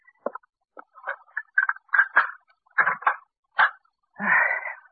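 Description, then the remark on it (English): A door is opened with a run of clattering knocks and wooden creaks in an uneven rhythm, finishing in a longer scraping groan. No one speaks. “Now, maybe I'd best open the door.”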